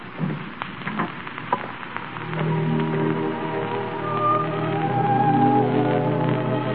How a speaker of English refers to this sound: It's raining awfully hard.